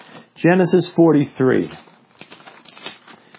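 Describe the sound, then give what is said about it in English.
A man speaks briefly, then soft, scattered rustles and crinkles of Bible pages being turned to Genesis chapter 43 fill the background, several overlapping flips at moderate, fairly faint volume. “I can hear those pages turning.”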